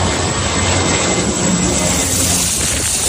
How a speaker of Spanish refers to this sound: Es el sonido de las descargas de agua que se están realizando los aviones que luchan contra las llamas. Son los incendios más graves que se han registrado en Grecia en toda su historia.